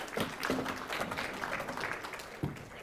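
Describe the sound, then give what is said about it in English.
A crowd of people claps together in a steady, dense patter of applause that continues throughout without any talking over it, as a speaker is called up. “Yeah, go ahead, clap.”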